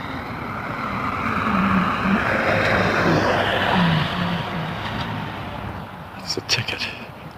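Three-wheeled motorcycles drive past, their engine drone swelling loudly then fading away, with steady road and wind rush underneath and a few sharp clunks near the end.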